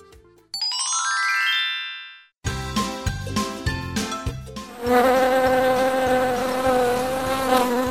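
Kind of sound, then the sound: insect, bees buzzing in flight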